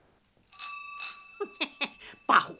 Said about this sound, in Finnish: Pahuksen ovikello.